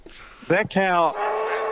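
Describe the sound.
A person imitates a cow's moo: one short, strained, nasal lowing sound, loud, lasting about half a second, followed by a breathy hiss.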